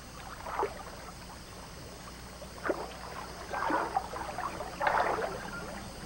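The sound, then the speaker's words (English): Four uneven splashy strokes as a mother orangutan, her baby holding on tightly, dips her long arm into the water to row a small boat, over a steady low background hiss with no voices. “With her baby holding on tightly, she dips her long arm into the water and rows the small boat.”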